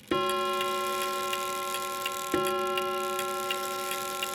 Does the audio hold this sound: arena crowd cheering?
no